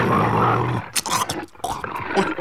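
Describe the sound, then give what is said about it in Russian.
A deep, rough growl rumbles loudly for almost a second, then breaks into a string of harsh snarls and huffs from a big hungry tigress. “Простите, дорогие телезрители, уже не снимаем, тут голодная тигрица.”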